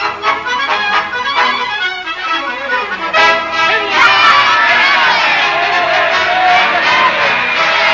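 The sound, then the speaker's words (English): A large crowd at a political rally yells and cheers in a sustained, loud roar, many voices blending into a dense wall of shouting that swells and continues throughout. “What are they yelling about, Mr. Clancy? Haven't you ever been to a political rally before? They'll yell at anything.”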